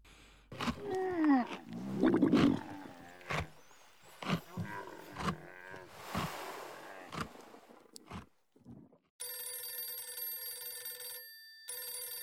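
An internal telephone rings insistently in an apartment, a steady electronic trill lasting a few seconds with a brief break, coming right after a stretch of loud animal roars and growls.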